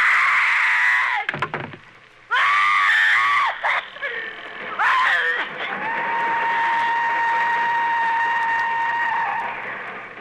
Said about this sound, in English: When she's attacked in her bedroom, Agnes Moorehead screams. And she worked it out so that her scream would be the exact pitch of the whistle of the train that was going by her home.